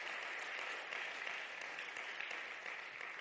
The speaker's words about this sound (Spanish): Dar un aplauso al rey. Sube la alabanza.